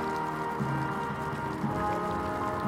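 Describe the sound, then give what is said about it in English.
Heavy, intense rain pours down steadily during a funeral at a cemetery, a dense, constant hiss of drops drumming on surfaces, with no voices and no breaks in the downpour. “As the rain sheeted down”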